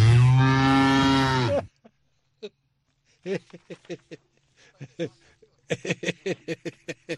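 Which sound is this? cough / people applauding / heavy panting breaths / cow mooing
cow mooing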